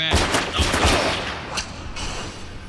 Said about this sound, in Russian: В котором часу это произошло? Соседи говорят, что услышали выстрелы в 2:45, но стрелявшего никто не видел.